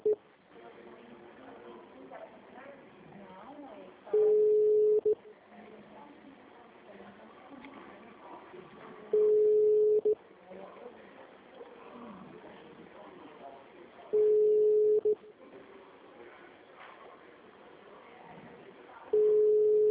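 A phone line rings with no answer: a steady mid-pitched ringback tone sounds for about a second every five seconds, four times, over a muffled, continuous background of voices or music.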